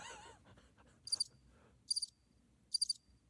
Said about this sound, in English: That's not sad. Are the crickets sad? That's the best I got on the soundboard right now.